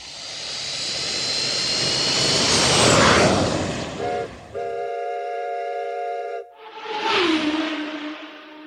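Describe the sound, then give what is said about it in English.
A loud airplane jet engine roar sound effect swells and sweeps past, then cuts to a steady, horn-like chord before another rushing whoosh of passing engine noise; no one speaks. “Planes, trains, and automobiles, y'all. This is a segment and try to lighten up a little bit.”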